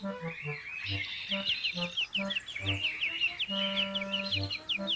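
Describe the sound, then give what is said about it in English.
Birds sing in a steady stream of quick, high chirps and trills, with lower clucking or cooing notes popping up beneath them, being recorded on a tape recorder. No one talks. “Just a few more bird songs and my surprise for Lunette will be finished.”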